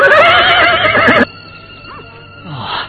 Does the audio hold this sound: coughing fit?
no